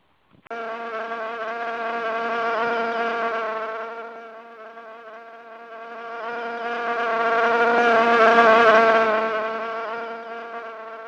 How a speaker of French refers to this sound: Je trouve que mouche pour une ville, c'est assez amusant car une mouche, c'est un animal qu'on voit souvent l'été dans sa maison, c'est un insecte.